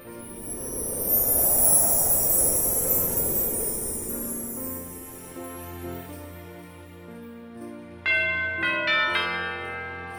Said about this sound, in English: Bells were and are still used today to signify the gathering of people to learn about the life and teachings of Jesus. During Christmas, let the bells ring in celebration of the Savior's birth.